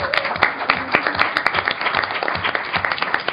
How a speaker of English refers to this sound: It's the most powerful young generation ever, as you see as they come in. Exactly. Give them a round of applause because they're in here.